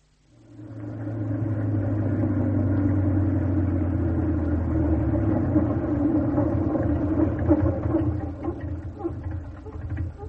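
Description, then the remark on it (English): A push-started car engine catches after a brief quiet moment, then runs on with a steady, loud low rumble and hum, roughening slightly toward the end. No voices are heard. “Don't tell me we're about to run out of petrol.”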